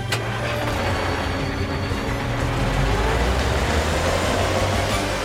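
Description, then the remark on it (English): A car engine rumbles steadily as the car Carl drives through the streets, a continuous low, loud hum with no pauses and no one speaking. “Carl drives through the streets.”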